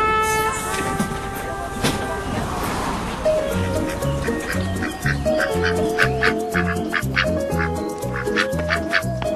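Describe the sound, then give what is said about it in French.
A duck quacks beside a small pond in a long, steady run of loud, nasal calls, repeating in a regular rhythm over a busy outdoor background. “Ah, alors là, je suis accueilli par un canard.”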